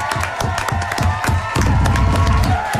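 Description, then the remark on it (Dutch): A live audience applauds and cheers, dense clapping with rhythmic claps at first, then swelling into fuller, louder applause with whoops and crowd noise throughout. “Ik vind het wel een applaus waard.”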